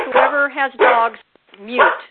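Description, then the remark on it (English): A dog barks three times in quick succession, moderately loud, with short pauses between the tonal, slightly yelping barks and no talking over them. “Whoever has dogs, mute.”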